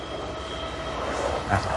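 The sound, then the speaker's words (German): A train, unseen, rumbles past, a steady broad roar with a faint tonal hum that swells briefly near the end. Voices may be faintly audible under it. “Da kommt der Zug, genau, ja.”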